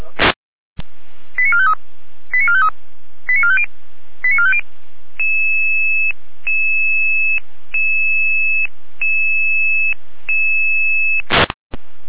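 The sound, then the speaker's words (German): Fire brigade radio alerting tones as Feuerwehr Rahn is called out at 11:25 for assistance with an oil spill: a burst of static, four quick rising multi-tone sequences, then a long series of steady two-pitch beeps in regular pulses, ending with another crackle of radio noise. “Alarmierung.”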